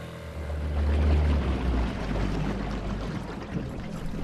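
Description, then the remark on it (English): A boat motors along steadily on the Delta waterways off Bethel Island, its low engine rumble mixed with rushing, splashing water against the hull, continuous with no voices. “I've never had a tour by my dad before of the water.”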